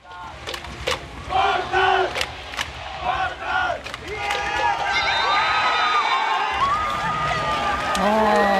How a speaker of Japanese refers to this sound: 名古屋アウェーだったんですが、 はい、 ボルターズ熊本から、そして全国からファンがこう集まってきておりまして、もうみんな抱きついて大歓声 での勝利の瞬間となりました。